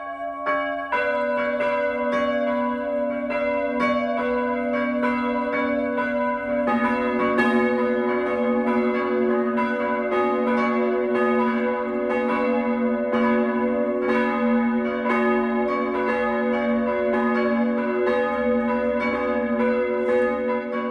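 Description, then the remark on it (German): Church bells in Engeltal, Middle Franconia, a small village in the Franconian Jura, ring the midday peal at 12 o'clock, several bells striking in overlapping rhythm with a rich, sustained ringing hum beneath the strikes, steady and loud throughout, with no voices. “Das Mittagsläuten kommt heute aus Engeltal in Mittelfranken.”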